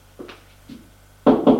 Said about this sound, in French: Il en a frappé à la porte.